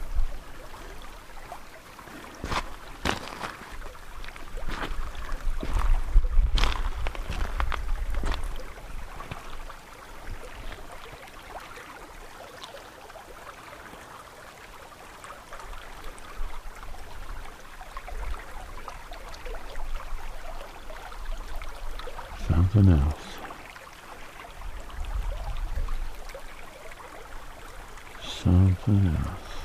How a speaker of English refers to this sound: Here's some more babbling brook for you.